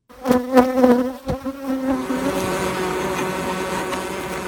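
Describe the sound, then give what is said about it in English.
A dense swarm of thousands of honeybees buzzes loudly and continuously outside a beekeeper's house, a thick droning hum with a few individual bees zipping past at the start before the sound settles into a steady roar. “Those are the sounds of thousands and thousands of bees right outside my house.”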